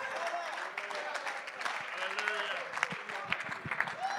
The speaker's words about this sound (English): Come on, don't clap if you're going to do it like that. Clap like you mean it.